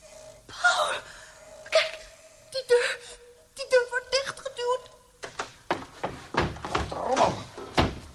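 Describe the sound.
Someone tries a locked door, with a series of rattling thunks and clacks as the handle is jiggled and the door knocks against its frame, along with a muffled voice.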